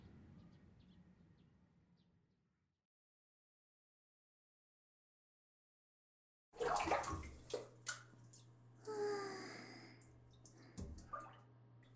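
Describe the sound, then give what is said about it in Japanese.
Faint rushing fades into a few seconds of silence, then shower water bursts on and runs in uneven, splashing surges over a low steady hum, with no voices. “とりあえずシャワー浴びたい。そうだね、一緒に入ろうか。”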